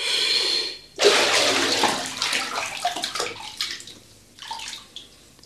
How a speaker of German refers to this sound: Wenn Sie nicht sofort auftauchen, verlasse ich die Wanne.